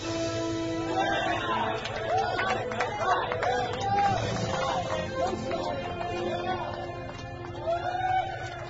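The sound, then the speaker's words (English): A crowd of voices, the crew of the submarine Cheyenne, shouts and cheers together after two torpedo explosions as the Cheyenne scores her first blood, overlapping and excited, sustained at a steady level for several seconds over a low background rumble. “Captain Bartholomew Mackey did not join his crew's cheers.”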